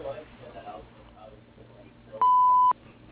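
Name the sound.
answering machine beep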